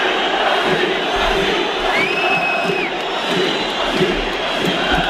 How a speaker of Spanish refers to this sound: aquellos que quedan agrupadas en un cántico que surgió en el estadio del Molinón de Gijón, nada menos, ahora que hablamos del Sporting, nada menos que el 25 de noviembre, esto es del año 79, que ya ha llovido.